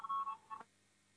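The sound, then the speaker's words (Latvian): A brief electronic voting bell signal in a parliament chamber, rung before a vote on a proposal: three quick, fairly quiet beeping tones in a row, then the room falls silent. “Lūdzu zvanu, balsosim par 35. deputātu Piminovu priekšlikumu.”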